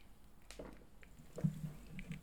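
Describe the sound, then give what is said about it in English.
Someone takes a slurping sip of hot tea with honey, with soft wet liquid sounds, a small gulp and faint mouth noises, all fairly quiet with no talking. “Anyway, I'm going to have another sip of my tea here”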